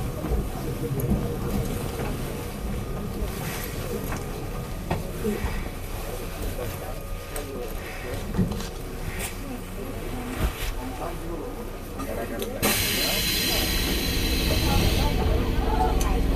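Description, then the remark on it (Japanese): A train rumbles and clatters as it slows into Suto station, with faint voices in the background, then a loud, steady pneumatic hiss bursts out as the doors on the right side release near the end. “須藤、須藤に到着です。お出口は右側です。”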